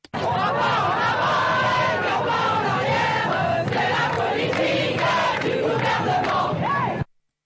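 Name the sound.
protesters chanting slogans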